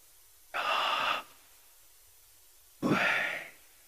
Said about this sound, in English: There's another breath prayer. It's kind of weird, but it's kind of cool, where you simply just say the name of God as you just sit and meditate. You breathe in, and you breathe out. Did y'all hear that?